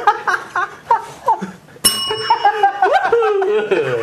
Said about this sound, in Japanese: あ、お風呂鳴るよ。